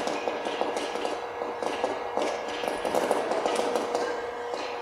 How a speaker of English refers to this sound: Isn't that amazing? All those hard little kernels of popping corn.